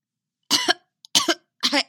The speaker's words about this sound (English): Wincing, he pounded on his chest and coughed a few times.